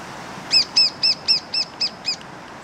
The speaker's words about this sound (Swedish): Ja, där hörde ni hur den mindre hackspetten kan låta, men den lät ju alldeles nyss här, men det brusar ju rätt bra från den här Östanåsälven, så det kanske inte riktigt uppfattades hem i stugorna.